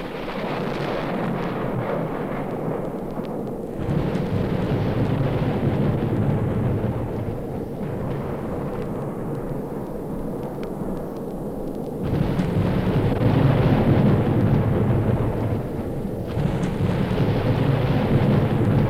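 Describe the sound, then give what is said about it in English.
Heavy thunder from a lightning strike on an aircraft passing between two thunderstorms rumbles continuously for nearly twenty seconds, surging louder in a few distinct waves, with a deep booming roar and no voices. “We have just taken a lightning strike on the aircraft and we are experiencing some electrical difficulties.”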